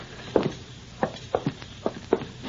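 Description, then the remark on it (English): Footsteps walk through a door into a house at an unhurried, steady pace, about seven firm, thudding steps, some falling in quick pairs, with no voices over them. “Open the door and walk right in.”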